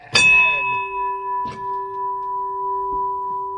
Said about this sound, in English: Yeah, that's how you ring a bell.